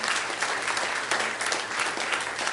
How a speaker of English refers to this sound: Isn't God good? Can we give him a hand clap of praise this evening? Amen. Praise the Lord.